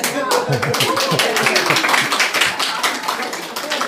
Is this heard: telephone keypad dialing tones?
no